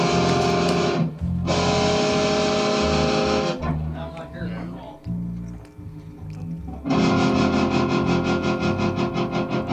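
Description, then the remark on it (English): A heavily distorted electric guitar plays loud, sustained chords, thins out briefly in the middle with quieter picked notes, then returns with a fast pulsing tremolo throbbing through the sound. “Yeah, it's heavy distortion with Tremolo.”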